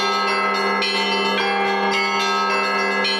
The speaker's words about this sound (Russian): Звоны разные бывают. Допустим, перед началом службы благовест – это звон в один колокол. Благовест завершается 3 звона. 3 звона – это во все колокола.